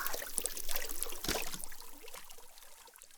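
Carbonated water is poured evenly over a person's head, a soft continuous fizz of tiny crackling bubbles with a brief gush in the middle, settling into quieter hissing; no one speaks.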